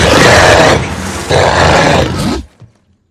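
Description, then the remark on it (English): Dracula gives a loud, deep monster growl that rumbles in two rough, sustained bursts lasting a couple of seconds, then cuts off abruptly with a faint trailing grunt. “As they lean in, Dracula growls.”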